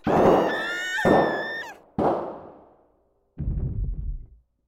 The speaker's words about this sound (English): The sound of gunshots startled me so badly, I peed myself.